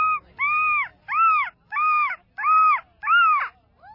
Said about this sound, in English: The gulls along the beach definitely look amused.